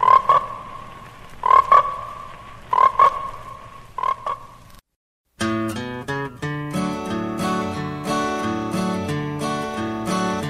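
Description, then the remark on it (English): A frog croaks four times at a slow, steady pace, each call loud with a raspy buzz, in the trailer for the American International picture Frogs, then a brief silence gives way to music. “Frogs, today the pond, tomorrow the world.”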